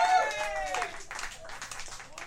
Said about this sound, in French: Une main d'applaudissement pour le 20 $ dans le fond là-bas.